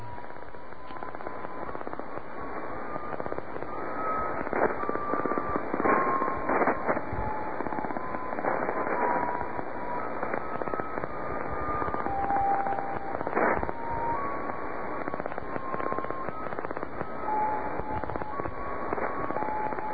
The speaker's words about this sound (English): Well, let's take a more in-depth listen to that. I'm wondering how many times myself or our listeners may have been tuning through and just thought this was, you know, noise, static, interference.